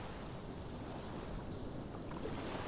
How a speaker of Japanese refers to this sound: 砂浜の心地よい感触、波の心地よい音、気持ちのいい風、綺麗な空気、心地よさを全身で感じて